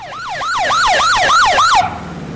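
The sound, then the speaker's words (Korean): A police motorcycle siren blares in fast, repeating yelps, loud, as the motorcycle arrives at a police camp for about 40 children, then cuts off abruptly after about two seconds, leaving faint background noise. “경찰 오토바이, 즉 모터치클이 요란한 사이렌을 울리며 캠프 현장에 나타납니다.”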